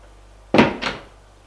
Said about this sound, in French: Il ferme la porte.